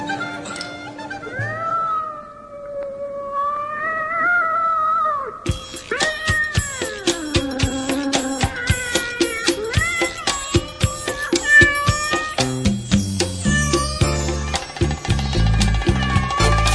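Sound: cat meowing and caterwauling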